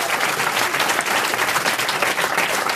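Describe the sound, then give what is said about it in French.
The studio audience of the radio show Les Grosses Têtes claps steadily and loudly throughout, a dense wash of many hands with no pauses and no one speaking over it. “On a un public devant nous qui vous applaudit déjà.”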